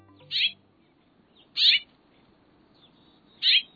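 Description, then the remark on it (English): House finch song: three short, bright chirping bursts spaced a second or two apart, clear over a soft, steady background murmur. No one speaks. “Those are house finches, familiar birds all across North America.”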